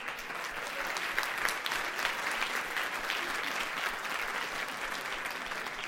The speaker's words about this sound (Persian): وقت تمام شد، خودتون رو تشویق کنید لطفا.